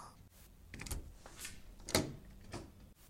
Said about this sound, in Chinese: 我要开门咯。